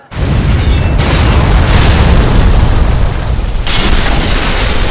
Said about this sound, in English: Sure enough, a few moments goes by and you see just a little smoke. But because it was started so near the kitchen, it rapidly expands and then there's this huge explosion.